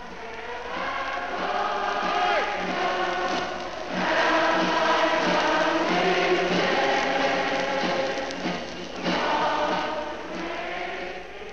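A vast crowd in Whitehall, London, sings the patriotic song Land of Hope and Glory together, conducted from a balcony. Hundreds of voices blend into one sustained, swelling chorus that carries steadily for several seconds with no single voice standing out.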